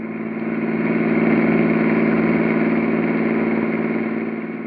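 A car engine hums steadily as the vehicle drives along toward a gas station, a low, even drone that swells slightly in the middle and holds constant throughout, with no voices.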